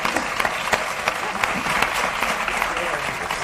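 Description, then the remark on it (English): Steady applause from a studio audience fills the whole stretch, a dense wash of many hands clapping at once with sharp individual claps popping out, sustained and fairly loud, with no voices. “4, 3, cue applause.”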